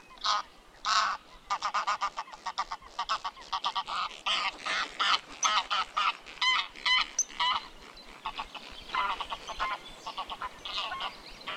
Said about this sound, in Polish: Głos gęgawy to oczywiście gęganie.